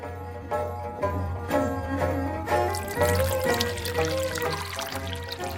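Water pours steadily into a bowl for several seconds before dried tea leaves are floated in it to make tea. It is a continuous splashing trickle whose pitch rises as the vessel fills, moderately loud with no talking.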